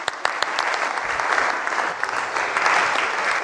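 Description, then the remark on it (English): A room full of people claps steadily, a dense, even wash of applause that holds at a fairly loud level throughout without fading. “Round of applause.”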